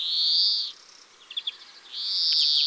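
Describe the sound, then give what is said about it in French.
A European greenfinch sings alone: two long, drawn-out nasal wheezes bracket a brief run of quick, high trilled chirps in between, clear. “Le chant du verdier est très variable, mais on y trouve toujours des notes tremblées et des cris très caractéristiques, nasillards et traînants.”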